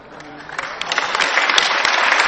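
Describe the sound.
An audience claps, with dense overlapping handclaps that build from moderate to loud and stay steady over a couple of seconds. Scattered voices and cheers mix in with the applause.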